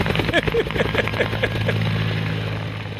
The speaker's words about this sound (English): insert a helicopter noise.